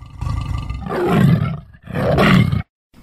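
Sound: tiger roaring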